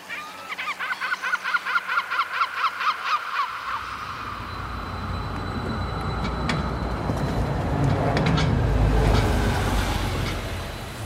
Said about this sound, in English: Scozia, Dundee, detta anche peggiorativamente Scandi. Un anno duro e strano in un sogno perpetuamente accompagnato da gabbiani affamati che strillano come bebè torturati e colori spaventosi d'una bellezza inimmaginabile.